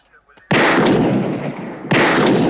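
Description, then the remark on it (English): Two loud gunshots fired at a police radio ring out about a second and a half apart, each hitting with a sharp, harsh crack and trailing into a long, noisy decay, after a brief quiet lead-in. “Shoot the radio. The police radio, Louise.”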